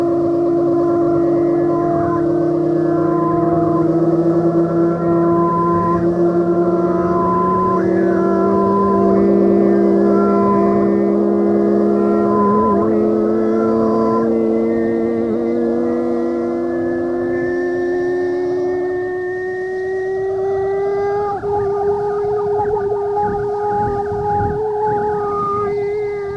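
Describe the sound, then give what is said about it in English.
A long, unbroken howl slowly rises and falls in pitch for nearly half a minute, loud, with rich layered overtones and no voices. “The last howl was drawn out as before. It rose and fell for perhaps a minute.”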